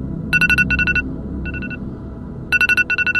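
A phone alarm rings with bright, rapid electronic beeping in short bursts, pausing briefly between repeating patterns, loud over a low background hum.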